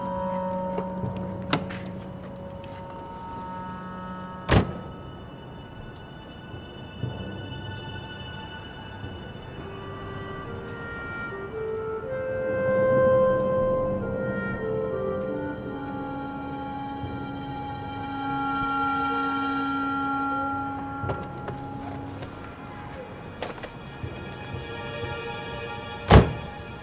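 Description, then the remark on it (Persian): Mechanical fiddling inside a car, with scattered sharp clicks and a few hard thunks as a stereo unit is worked loose from the dashboard. Tonal hum runs underneath and no one speaks. “دست تو بل کن جلو چشم من ضبط ماشین مردم باز میکنی.”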